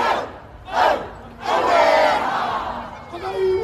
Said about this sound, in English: Throughout the day, spontaneous hakas broke out. Maori war cries rallying supporters to do battle with a government they say is undermining them.